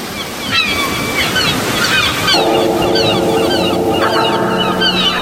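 Loud storm wind roars steadily outside as a storm begins, a dense rushing noise with thin whistling tones gliding above it. Partway through, a low humming drone rises under the gusts. No one speaks.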